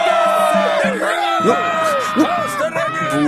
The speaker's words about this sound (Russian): Будет вам! Что вы так кричите?